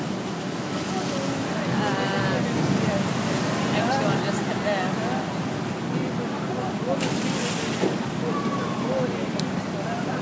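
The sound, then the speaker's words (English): At the bottom of a water slide on holiday, people coming down in a water ride boat surge through water with a heavy, rushing splash amid steady churning noise, while a crowd's voices chatter faintly in the background. “That was a splash. There's a lot of water.”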